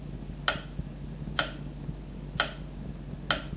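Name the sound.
clock ticking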